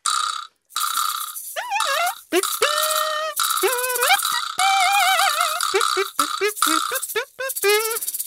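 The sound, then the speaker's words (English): A kazoo and chime band plays music: a kazoo-like buzzy tone carries a bending, wavering melody over bright, sustained chime-like ringing, in a loud, dense stretch of music with short stabbing notes near the end. “So I actually have a kazoo and chime band that I'm in, and I write all the music for it.”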